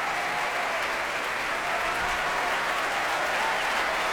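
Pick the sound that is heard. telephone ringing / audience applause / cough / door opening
audience applause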